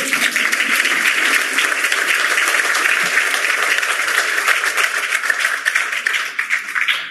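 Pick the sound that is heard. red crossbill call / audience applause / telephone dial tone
audience applause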